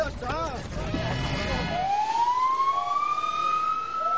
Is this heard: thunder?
no